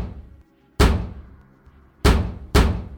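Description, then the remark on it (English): Three heavy, booming thuds of a fist pounding on a door as state police demand it be opened, loud, the first alone and the last two in quicker succession, each ringing out briefly. “You got 5 seconds to open this door, then we're knocking it down.”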